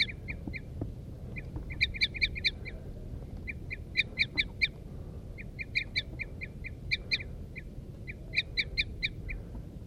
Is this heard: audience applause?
no